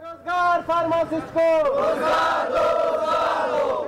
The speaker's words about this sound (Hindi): पाकिस्तान के सूबे बलूचिस्तान के दारुल हुकूमत क्वेटा में फार्मासिस्ट ने अपने मुतालबात के हक में एहतजाजी मुजाहरा किया। इस मौके पर उन्होंने अपने मुतालबात के हक में नारेबाजी भी की।